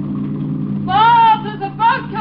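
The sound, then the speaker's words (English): A motorboat coming up fast: its engine drones low and steady throughout, with brief higher wavering tones rising over it partway through. “There's a boat coming up pretty fast.”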